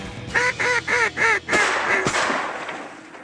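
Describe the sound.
Four quick, nasal duck-call honks in a steady rhythm, made by Ted Cruz imitating a duck call with his nose, fairly loud, followed by a rougher blast of noise that trails off. No talking.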